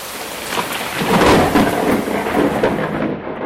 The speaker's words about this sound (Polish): Ciekawa audycja, bo jest z piorunami i z deszczem.